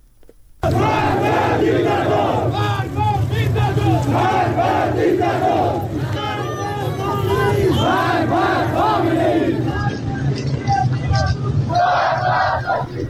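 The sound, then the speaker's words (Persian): A large crowd of protesters in Sunni-majority cities in Iran chants anti-government slogans in unison on a Friday after Friday prayers, loud and sustained, with overlapping voices rising and falling in rhythmic shouted phrases for the whole stretch. “معترضان در برخی شهرهای سنی نشین در ایران روز جمعه پس از نماز جمعه به خیابان‌ها آمدند و شعارهای ضد حکومتی سر دادند.”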